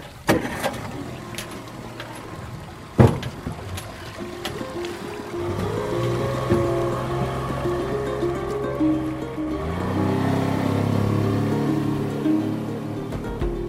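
A motorboat engine drones steadily over rushing, splashing water, with a sharp knock early on; the motor pitch climbs and grows louder toward the end as the boat speeds up. No talking.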